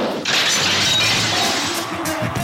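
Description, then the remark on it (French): A short jingle bursts in with a loud, shattering crash that holds as a dense, harsh roar, with a few thin whistling tones threaded through it. No one speaks. “Je m'excuse d'avance pour le jingle qui arrive.”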